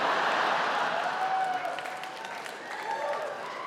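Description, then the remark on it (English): A stand-up comedy audience in America claps and cheers steadily, a dense wash of applause with a few voices calling out over it, sustained at an even, fairly loud level throughout. “You guys are cheering because you know this is way better than having kids.”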